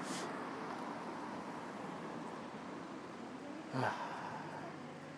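street traffic

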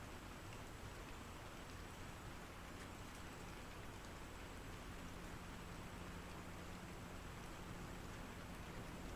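rain falling

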